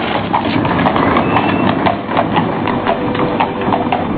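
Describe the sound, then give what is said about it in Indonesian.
Horse hooves of a travelling party, after passing the village of Silabungu, clip-clop in a steady, fairly quick rhythm, prominent over a dense, rumbling background. No one speaks. “Setelah melewati desa Silabungu, rombongan terpaksa berhenti karena Putut Jantaka rewel di atas kuda.”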